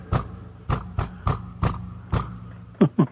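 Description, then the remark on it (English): Someone beneath a house knocks on its floor from below: six dull, thudding raps at an uneven, unhurried pace, then two quicker, sharper knocks at the end. No voices, just the knocking over a faint background hum. “Like, did you hear me, like, knocking on the floor a little bit ago?”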